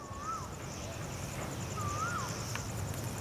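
An Asian koel gives two clear whistled calls, each sliding up and then dropping, a second or so apart, over a steady low hum of the generators of KK Park and a thin high buzzing drone.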